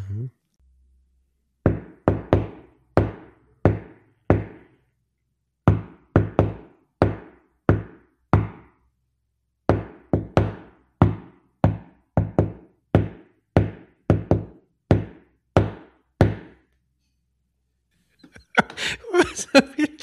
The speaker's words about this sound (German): Ich klopfe jetzt eine bekannte Melodie auf den Tisch und ihr erratet, um welchen Song es sich handelt.